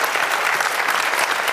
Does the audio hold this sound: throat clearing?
no